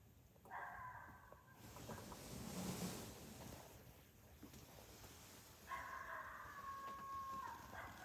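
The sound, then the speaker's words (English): Two drawn-out, wavering coyote challenge howls, one early and one near the end, each holding a steady high pitch, rise over a windy outdoor background with no talking. “For a coyote.”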